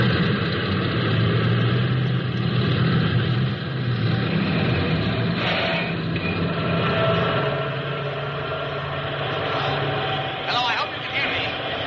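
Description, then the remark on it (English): A loud, steady roar of army vehicle motors fills the whole stretch as a whole army task force of cats, bulldozers, tractors and trucks moves east up rising ground on a valley floor at sunrise, a dense rumbling drone that barely changes, with a voice faintly audible beneath it. “hear me above the roar of these motors here?”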